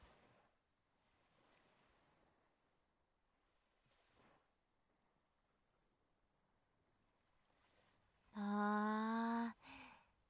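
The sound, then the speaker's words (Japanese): Soft ocean waves wash onto the shore in a low, steady hiss with a few gentle surges, then a loud, sustained horn-like blast cuts in near the end. No one speaks. “波の音っていいよね。癒されるってなんない？”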